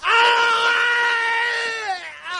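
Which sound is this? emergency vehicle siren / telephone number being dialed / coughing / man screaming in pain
man screaming in pain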